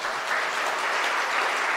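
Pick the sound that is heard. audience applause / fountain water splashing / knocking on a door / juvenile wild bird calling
audience applause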